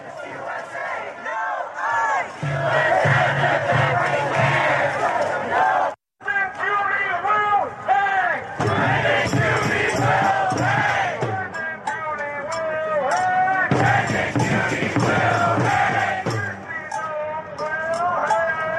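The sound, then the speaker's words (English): A large protest crowd shouts and chants together in a loud, continuous roar of many voices, with surging rhythmic yells and a brief break near the middle before the clamor resumes. “That crowd is as big as every ICE enforcement officer they got.”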